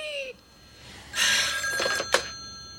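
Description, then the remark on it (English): A telephone rings late at night with a bright electronic trill, a couple of bursts over about three seconds, clear, with no one talking. “And then we get to that phone call we heard before in clip 18.”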